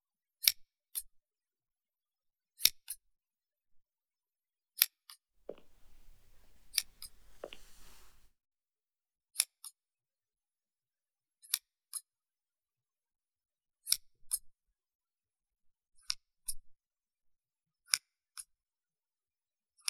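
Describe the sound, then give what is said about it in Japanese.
Scissors snip crisply in pairs of sharp clicks, repeating at a steady pace, with a brief stretch of soft rustling and handling noise in the middle; no one speaks. “いえ、こっちのハサミも捨てがたいですね。”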